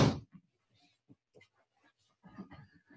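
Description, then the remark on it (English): A person closes their door with one loud thud at the start, followed by quieter scattered grunting and squealing noises from dogs in the background, with no one talking. “I'm going to close my door.”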